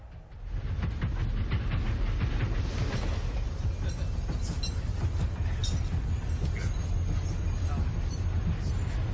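A train rolls steadily along the rails, a loud, continuous low rumble with faint rhythmic clacking from the wheels, heard as if from onboard.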